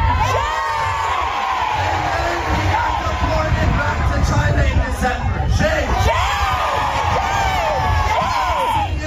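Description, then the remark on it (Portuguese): A large crowd of protesters in San Francisco, holding signs calling for an end to the anti-immigration agency, shouts and chants words such as "shame" together; a dense wall of overlapping voices with rising yells and whoops, loud and sustained throughout without a break. “Em São Francisco, os manifestantes seguravam cartazes pedindo o fim do órgão anti-imigração e gritavam palavras como vergonha.”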